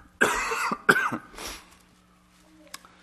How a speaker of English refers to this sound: And just to summarize, hopefully I'm going to not start coughing here, but I'm going to read one last verse in chapter 10.